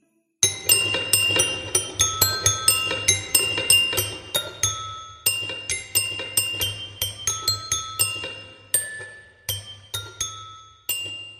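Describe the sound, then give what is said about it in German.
A music box, its cold metal crank turned hesitantly by hand, tinkles out a slow, halting, badly out-of-tune melody of bright plucked metallic notes, each ringing and fading, with uneven timing and sour, off-pitch intervals over a low steady hum. “Zaghaft dreht sie sie, wobei eine unglaublich verstimmte Melodie ertönt.”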